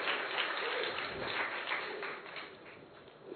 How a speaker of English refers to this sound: And really, you need to clap to yourself, even internally, and also I would ask you to clap externally.